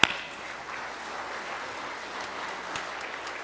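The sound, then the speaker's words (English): A crowd claps steadily, a dense wash of many hands that holds an even, moderate level after a sharp opening clap, with no voices. “And I give you all a round of applause.”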